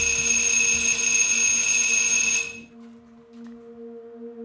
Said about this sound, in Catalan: Som al 3 de juny de 1968, a l'estudi de l'Andy. Aquell dia, la Valerie pica el timbre demanant reunir-se amb ell.